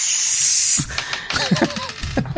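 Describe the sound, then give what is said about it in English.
A person makes a loud, sharp hissing sound for nearly a second, imitating a centipede. Short voiced grunts and clicks follow, rising and falling in pitch. “That you connect with the terrifying centipede. It hisses at you.”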